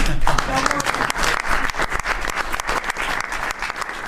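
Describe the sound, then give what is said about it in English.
Members of the press in a room applauding the announcement of Columbus Day: dense, steady clapping that stays loud and even for the whole stretch, with many overlapping claps blending into a continuous patter. “The press actually broke out in applause.”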